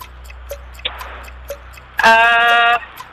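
A game show countdown clock, set to 30 seconds, ticks steadily about twice a second, then a loud, bright electronic buzzer tone cuts in and holds for under a second before fading.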